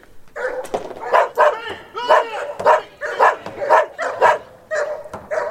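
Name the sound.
dogs barking and whimpering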